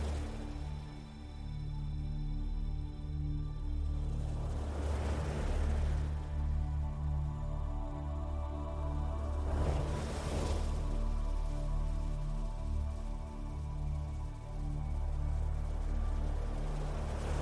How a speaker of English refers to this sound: For now, just continue to walk along the beach and let the sound of the ocean wash over you, calming your mind and body.